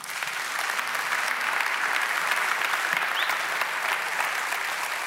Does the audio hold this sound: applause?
yes